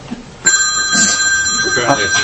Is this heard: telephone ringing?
yes